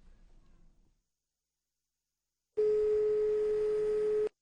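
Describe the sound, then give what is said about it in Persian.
A steady telephone line tone sounds once as the next caller's phone call connects, loud, holding for under two seconds before cutting off, preceded by a faint low rumble and a stretch of silence. “بریم این تلفن بعدی رو بشنویم.”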